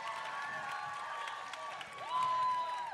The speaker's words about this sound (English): Thank you. Thank you. Thank you. Love you guys for that. Thanks for clapping.